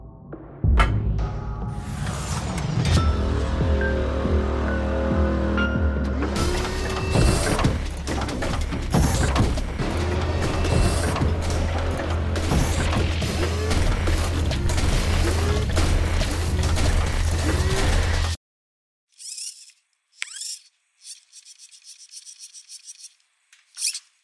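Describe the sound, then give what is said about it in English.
Loud, continuous mechanical whirring and grinding with rasping, clicking textures from a small robot gadget moving, sounding much bigger than it is; runs for about eighteen seconds, stops abruptly, then returns in a few short bursts. “It sounds like a big-ass robot.”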